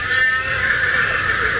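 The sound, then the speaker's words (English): A horse, not one of the speakers' own, whinnies far off, a thin, drawn-out call that carries steadily for a moment over a muffled background, with no voices. “It's not one of our horses.”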